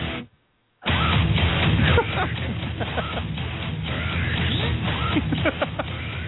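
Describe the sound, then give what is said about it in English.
A dense, loud song with a gritty Makita power drill whirring through it in the big jump, breaking in abruptly after a brief silence and grinding on steadily with rasping bursts. “Using a Makita drill in the big jump.”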